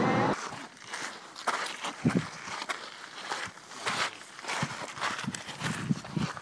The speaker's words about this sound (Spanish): Bueno, pues esas son las pisadas que se oyen yendo hacia la cima del volcán este de la isla de Neacameni, donde acabamos de bajarnos el barquito para dar una vuelta por aquí. Pues eso. Ay, y hace un calor agobiante.